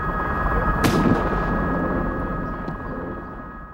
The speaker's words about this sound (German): Die Polizei filmte, wie sie den gepanzerten, wild um sich feuernden Mann mit einem Schuss in den Nacken tötete.